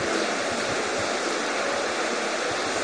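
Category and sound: nature, rain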